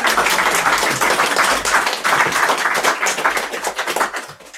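A crowd claps steadily for several seconds, a dense, continuous patter of many hands, fading slightly toward the end with no talking over it, welcoming a Glasgow-based writer to a reading.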